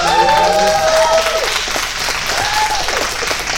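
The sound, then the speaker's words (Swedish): A crowd breaks into steady, loud applause congratulating someone on an upcoming wedding, filling the whole moment, with a few whoops and cheering voices rising above the dense clapping. “En applåd för...”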